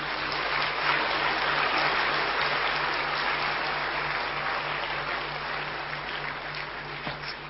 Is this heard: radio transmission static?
no